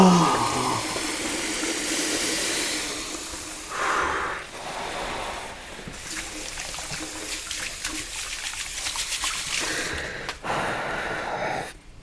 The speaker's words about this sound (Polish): Muszę włożyć rękę pod zimną wodę.